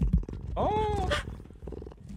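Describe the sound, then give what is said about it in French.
A Canada lynx purrs while rubbing against the microphone, a low rumbling broken by a brief, tonal meow-like call in the middle, with faint rustling around it. “Et un lynx qui est venu ronronner au micro d'énergie.”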